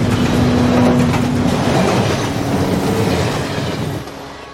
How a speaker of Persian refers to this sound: قطار از شهر خارج میشه.